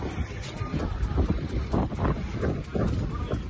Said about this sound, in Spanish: Es el sonido en la zona minutos después de la explosión de los dos misiles. Hasta ahora se habían respetado las estaciones de trenes. En la de Kramatorsk estaba repleta en ese momento de mujeres y niños que intentaban salir de la ciudad.